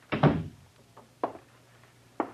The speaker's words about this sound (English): Close the door. Yeah.